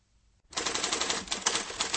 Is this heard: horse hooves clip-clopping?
no